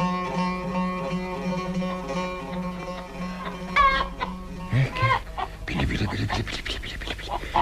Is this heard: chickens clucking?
yes